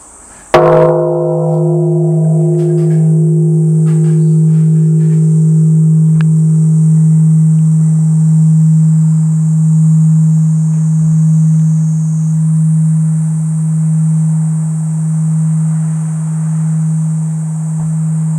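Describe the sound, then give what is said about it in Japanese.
The bell of the bell hall at Butsumoku-ji, a Buddhist temple, is struck once, giving a sharp clang that settles into a deep, steady hum which rings on for many seconds with a slow wavering pulse. “仏木寺金付堂の鐘です。”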